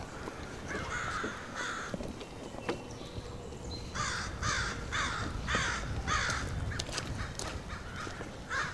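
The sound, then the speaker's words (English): Crows caw in harsh, raspy calls, a pair early on and then a steady run of about seven quick caws, over low outdoor background rumble. “You really get the sense that the crows are telling you you're trespassing.”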